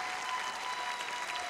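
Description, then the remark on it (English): An audience in Elkins claps steadily for performers, a dense, even patter of many hands with no pauses and no voices over it. “Sir, how about a good round of applause?”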